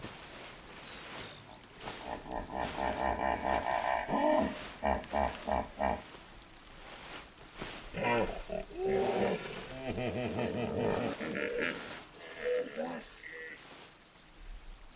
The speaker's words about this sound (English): as we go into this immersive experience with me, …, into the rivers where the hippopotamus resides